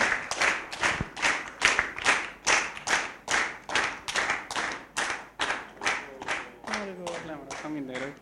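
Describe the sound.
A crowd claps together in a steady, even rhythm, about two claps per second, fairly loud, with a voice rising over the clapping near the end.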